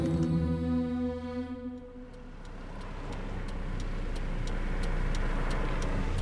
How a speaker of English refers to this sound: I'm in the car on the way to Porirua.